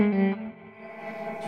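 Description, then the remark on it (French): An electric guitar plays through an amp, a few notes ringing out with heavy reverb that leaves a lingering, washy tail. No one speaks. “je vais calmer un peu la reverb parce que c'est un peu envahissant.”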